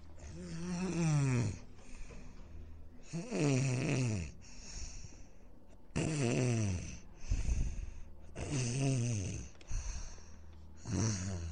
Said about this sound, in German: jetzt hör endlich auf zu schnarchen. Du sägst so laut vor dir hin, aber kein Mensch schlafen. Was ist los? Du schnarchst genau in mein Ohr, weil es hier unten so eng ist.